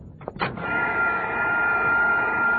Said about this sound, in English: take that vacuum cleaner off the table. You're sucking up the sauerkraut.